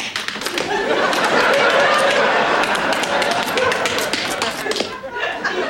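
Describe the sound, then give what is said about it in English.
Quick, busy tap dancing steps by someone learning to tap dance clatter on a hard floor, a dense run of sharp clicks and taps, fairly loud, with a murmur of voices and chuckling underneath. “It's just that I've always dreamed about learning to tap dance, and I guess I'd get too gung-ho about things.”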